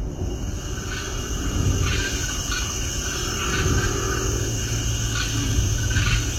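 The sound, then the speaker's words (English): A chorus of frogs (green frogs, green tree frogs, squirrel tree frogs, eastern narrow-mouthed toads and the growl-like river frog) calls in repeated, overlapping croaks and chirps, some from the opposite side of the river, over a steady low rushing of river water, with no voices. “Oh yeah, those are frogs.”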